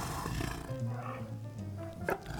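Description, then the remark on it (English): A female big cat purrs while being fed meat, a deep, steady rumble that runs through the whole clip, rising and falling slightly, with a brief sharp knock near the end. “Listen, she's purring.”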